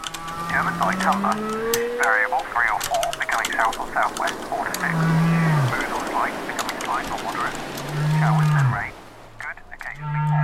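Low, drawn-out whale moans rise and fall several times through a dense ambient mix from the Ambiphone ambient noise website, with higher warbling calls, scattered clicking taps and a steady rain-like hiss underneath.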